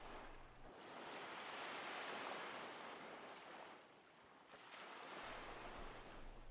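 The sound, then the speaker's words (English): Sea waves wash onto a sandy shore under a hazy sun in a steady, hissing rush that swells, eases off briefly, then surges again, with a faint low rumble and no voices. “The hazy sun, the sea, and the sand.”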